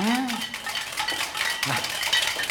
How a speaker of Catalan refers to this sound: En Marlí dirigeix l'orquestra d'alumnes que piquen amb cassoles, tapes i coberts al ritme que ell els marca.